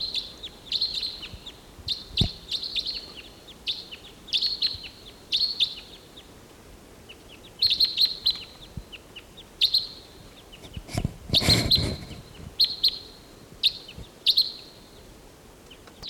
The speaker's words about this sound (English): There's a pair flying over, three birds flying over.